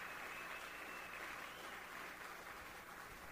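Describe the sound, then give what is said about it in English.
A crowd at a speaking event applauds the organizers and students steadily, a dense wash of many hands clapping at an even, sustained level for the whole few seconds, with no voices standing out. “Everybody, yeah, give them a round of applause.”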